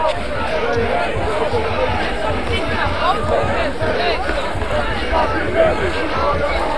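Dense crowd noise of packed protesters at the Binnenhof fills the whole stretch, a steady wash of many overlapping voices chattering and milling, with no single speaker standing out and a constant loud level throughout.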